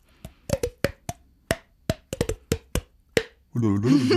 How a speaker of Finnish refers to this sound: Myös kieli ja posket taitavat monenlaisia rytmejä, vaikka tälläin.